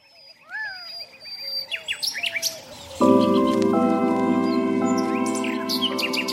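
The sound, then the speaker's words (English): Several birds chirp and trill in quick, bright bursts before a steady swell of sustained musical tones enters halfway through and carries on beneath scattered chirps. “Birds are a really unique connection to the world around us.”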